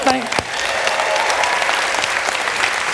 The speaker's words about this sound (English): That's a lame clap for a first baby. I'm just telling you. Come on.